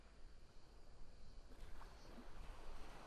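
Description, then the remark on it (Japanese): Steady outdoor seaside ambience at a beach: a broad wash of cold wind noise and low rumble with soft, continuous surf-like swells, fairly quiet and without any voices. “それとも海で少しゆっくりしていきますか？”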